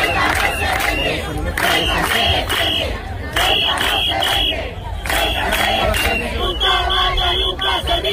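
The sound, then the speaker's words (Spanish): A large crowd of protesters in Ceuta chants loudly in rhythmic bursts during a Saturday day of protests, voices rising and falling together with shouts, whistles and cheering over a constant roar of babble. “Este sábado ha habido una nueva jornada de protestas.”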